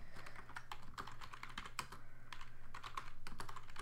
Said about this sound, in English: I'm really sorry, I'm typing. Give me 1 second.